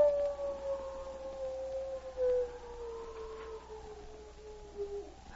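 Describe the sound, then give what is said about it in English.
A single long wolf howl holds a steady, slowly falling tone for several seconds in a white wilderness after a storm, fairly quiet over a faint hiss of background noise, with no voices. “The silence that was broken only by the infrequent howl of a wolf.”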